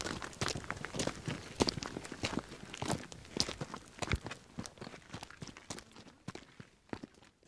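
Footsteps crunching along a desert trail at night on a full moon hike in Cave Creek, a steady uneven rhythm of several walkers' shoes scraping gravel, fairly loud with no talking, fading slightly toward the end.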